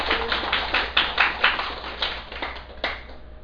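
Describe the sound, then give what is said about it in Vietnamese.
A scattered, thin, weak round of applause from an audience at a Buddhist talk, with loose uneven claps spread across a few seconds, fairly soft rather than a loud ovation. “Kính thưa đại chúng, cái câu nói này rất là hay, mình nhớ rất là giỏi, nhưng mà vỗ tay cái kiểu này yếu quá, cho nên đề nghị vỗ lại cho thật to.”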